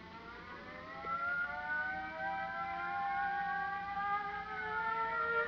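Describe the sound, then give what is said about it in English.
An airfield crash alarm siren at Rockford, set off with the crash button, wails steadily, its layered tones slowly sliding up and down in pitch. It swells louder after the first second and holds for several seconds, with no voices. “You better hit the crash button.”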